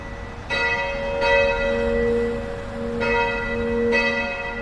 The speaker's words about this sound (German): Dreimal am Tag läuten in allen katholischen Kirchen die Glocken. So auch in der Kirche St. Aldegundis in Rheindorf, einer der 24 katholischen Kirchen in Leverkusen.